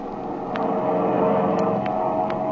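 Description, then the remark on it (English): A steady, droning engine roar fills the cabin of a transport plane just after takeoff, constant, with a few faint clicks over the hum and no voices. “But here we are in the cabin of the transport, just after they have left the field.”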